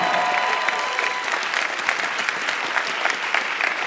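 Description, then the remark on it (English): A crowd claps steadily and loudly, a dense patter of many hands with faint whoops mixed in, sustained without a break. “If you're listening at home, let's get a round of applause as we...”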